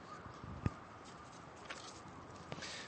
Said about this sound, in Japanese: 音だけだから分からないですけど、めっさ木が生い茂ってます。田舎にお住まいのちょっとオタクな人は分かるかもしれませんけど、サバイバルゲームに最適ですそのぐらい。ちょっとだからこの舗装されてない道歩いてみましょうか。